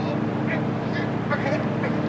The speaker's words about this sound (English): Yes. Sounds like his boat.